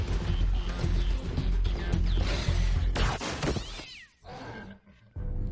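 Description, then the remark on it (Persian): A cat meows and yowls loudly against a busy, cluttered background with crashing and rumbling noise, the cries rising and bending in pitch over several seconds. “موجود گربه مانندی به سفینه مادر نزدیک شده.”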